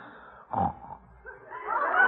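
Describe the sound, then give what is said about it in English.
A man snores unevenly: a loud, raspy snort cuts in, then a longer wheezing breath builds and grows louder, its tone wavering and off-pitch. “How do you like that? Snores off key.”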